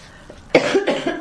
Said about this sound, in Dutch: Ah, oh, even hoesten.